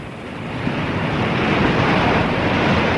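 Steady roar of sea waves washing onto a shore, a broad continuous wash that swells slightly louder after the first half second, with no voices.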